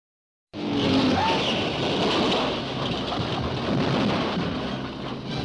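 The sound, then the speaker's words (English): A dense, steady roar bursts in after a brief silence and holds loud throughout as super-powered racing cars thunder around the track at the Indianapolis 500-mile race, averaging up to 129 miles an hour, with a faint engine whine rising early on. “At Indianapolis, super-powered cars thunder toward the starting line, and they're off in the world's greatest auto racing classic.”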